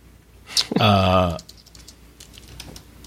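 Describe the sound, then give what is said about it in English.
Light, quiet keyboard taps click irregularly after a brief voiced sound near the start, a scattered run of soft keystrokes as someone types "AR game I" to see if it autocompletes. “I was like typing AR game I and trying to see if it would autocomplete.”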